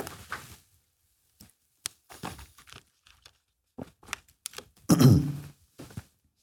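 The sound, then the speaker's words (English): Someone pauses to drink water: scattered soft thunks and plastic crinkles from handling a bottle, then a fuller burst of swallowing and breath before a few final quiet clicks. No talking. “I'm going to pause for a drink of water here.”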